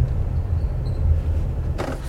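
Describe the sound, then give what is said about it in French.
A low, steady engine rumble of a rental car idles, with a brief burst of broader noise near the end, like tires or a shift as the car eases into a parking spot at a house beside a Porsche and a Chevrolet. “Alors je vais essayer de me mettre là sans tamponner la Porsche ni la Chevrolet.”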